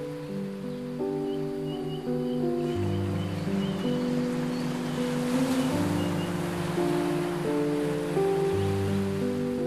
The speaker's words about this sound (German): Die Wellen wiegen dich sanft hin und her, wie eine Hängematte aus glitzerndem Wasser.